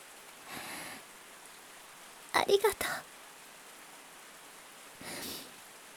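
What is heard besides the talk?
rain getting heavier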